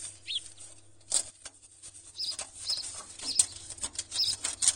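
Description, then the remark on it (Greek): A small sparrow trapped inside a fireplace flaps its wings in quiet, irregular flurries of soft fluttering and scraping, with a few faint, high chirps between bursts. No one speaks. “Ένα μικρό σπουργίτι παγιδεύτηκε!”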